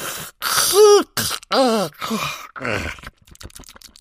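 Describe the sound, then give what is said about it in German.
A voice acts out a big, drawn-out yawn as Grandma Krumpfling, yawning with her mouth wide open: a rising then sinking groan with breathy noise and several stretched vocal swells, fairly loud, trailing off into soft breath. “Du kannst jetzt gehen, erklärte Oma Krumpfling großzügig und gähnte mit aufgerissenem Maul.”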